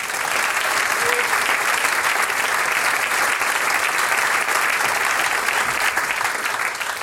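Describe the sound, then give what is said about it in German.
Steady, dense audience applause for the clarinettists of the Graz Philharmonic after their programme fills the whole stretch, a loud continuous wash of many hands clapping with no pauses and no voices standing out. “Das ist euer Applaus.”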